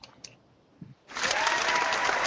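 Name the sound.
applause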